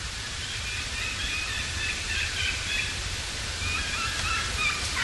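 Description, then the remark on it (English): A young turkey gives faint, high whistled 'kiki' calls in a couple of short bursts, thin beneath a steady wash of hiss and outdoor noise, with the audio boosted. “That's a young turkey. Right there. I had to boost the audio so you all could hear that.”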